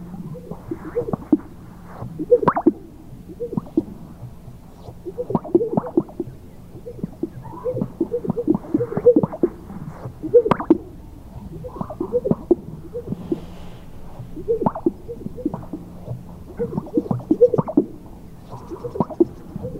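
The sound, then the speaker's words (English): Repeated low popping and swishing bursts from a sage grouse chest sac display, coming in quick clusters every second or so, with soft bubbly plops and brief whistly accents over a steady low hum. “Finally, chest sacs, sage grouse.”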